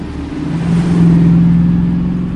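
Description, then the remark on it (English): A white BMW pulls onto a deserted street with a dark sedan following, the engines revving and accelerating with a steady, loud low rumble that rises in pitch. No voices are heard. “As the BMW pulls onto a deserted street, the dark sedan follows.”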